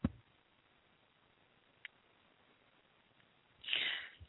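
A near-silent stretch with a faint tick, then a single short, harsh cough bursts out loudly near the end, with no talking.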